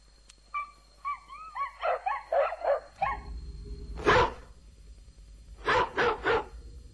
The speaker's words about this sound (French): Faites taire le chien dehors, là.